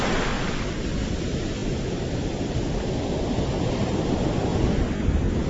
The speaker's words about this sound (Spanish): pero escuchemos el sonido del mar. Escuchá. Me voy a acercar un poquito más, mira, escucha